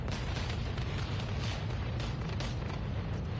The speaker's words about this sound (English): Huge explosions shook the sky near Beirut's main airport.